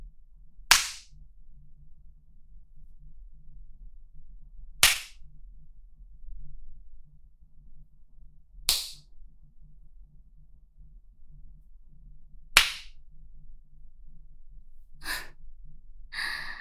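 Four sharp paddle spanking strikes land alone at a slow, steady pace, each a loud crisp smack spaced about four seconds apart, followed by a couple of soft breathy sighs.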